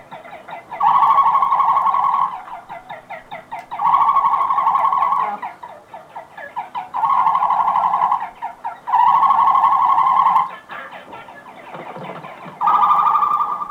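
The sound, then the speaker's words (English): Loud, harsh bird calls come in five repeated bursts, each about a second and a half long with short pauses between. A hen and her mate trade greeting calls in a mating ceremony at their nesting site on Chincha Island, and nobody speaks. “A hen descends. Now, in a ceremony of recognition and greeting, they agree to mate.”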